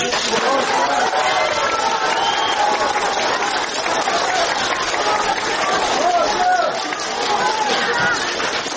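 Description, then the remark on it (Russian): Loud, sustained applause fills the whole stretch, with voices shouting words of support over the clapping in a dense, steady roar of a crowd in a court, as friends, civil activists, human rights defenders, politicians and publicists greet activist Konstantin Kotov. “Бурные аплодисменты и слова поддержки.”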